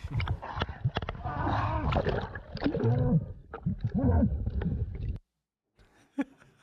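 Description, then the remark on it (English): An aggressive sea lion growls and roars in loud, gurgling bursts for several seconds beside a boat, then falls silent before one short faint sound. “Well, this next one says an aggressive sea lion.”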